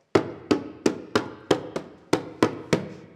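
Heavy footsteps of a ghost climbing the stairs back up in a castle, about nine loud thuds in a steady, evenly spaced rhythm, each with a short hollow ring, with no voices.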